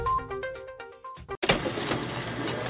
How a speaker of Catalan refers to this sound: Carrera de cotxes?